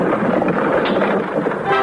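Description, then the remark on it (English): A streamlined train's whistle blows in one long, steady, loud blast lasting about two seconds, a rich, multi-toned chord with no voices and a faint rumble underneath. “The streamlined train.”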